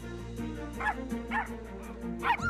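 dogs barking and yipping

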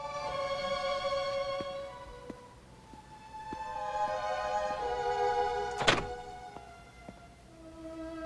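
door being opened

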